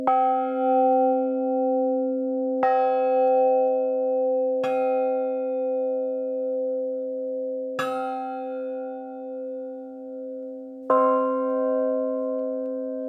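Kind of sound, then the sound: signal or alarm, bell struck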